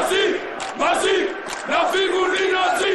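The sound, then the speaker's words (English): Greek reservists parading in Athens on the day the German leader visited during the debt crisis shout the slogan "Nazis out" in unison, loud and forceful, in three rhythmic bursts separated by brief pauses, like a marching chant. “Incredibly, they're shouting, "Nazis out."”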